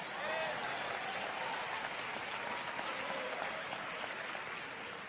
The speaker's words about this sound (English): Clap, I dare you.